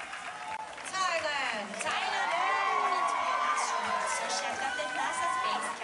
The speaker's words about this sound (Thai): เช่นเดียวกับกองเชียร์ชาวไทยจากทั่วสารทิศทั้งที่เดินทางจากรัฐอื่นๆในสหรัฐและเดินทางไกลจากเมืองไทยก็เดินทางมาร่วมส่งเสียงเชียร์ทุกครั้งที่ได้ยินการประกาศชื่อตัวแทนจากประเทศไทยเพื่อรวมใจเป็นหนึ่งลุ้นเชียร์ให้สาวไทยคว้ามงกุฎ Miss Universe ได้สำเร็จ